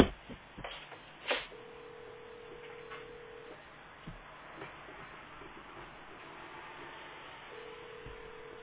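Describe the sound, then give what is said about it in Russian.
A telephone call tone: a steady two-second beep, a long pause, then the same beep starting again, heard over a faint hissy line with a couple of soft clicks, no one speaking. “потому что тебе звонит уже. Это Дима куда-то пытается дозвониться”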